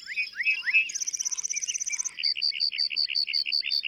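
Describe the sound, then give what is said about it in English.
A lark bunting sings clear, opening with slurred whistles before breaking into rapid buzzy trills and a steady run of repeated chipping notes. “Male lark buntings perform elaborate flight displays to attract mates and fend off rivals.”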